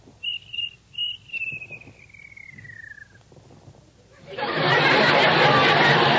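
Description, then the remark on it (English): A few short, high chirps from a cricket in a room ring out, then one long chirp slides slowly downward and fades. A loud, steady rushing noise takes over at the end. “Please, Mr. Cricket, George has work to do. Won't you please be quiet?”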